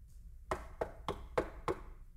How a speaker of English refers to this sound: I stand at the door and I knock. That's the door of your heart.